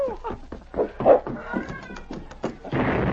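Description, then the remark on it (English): A girl's muffled cries from inside a cabin: several short, high, wavering wails that sound stifled, followed near the end by a burst of rustling noise. “But at that moment, the sergeant heard some muffled cries from inside the cabin. That sounds like a girl.”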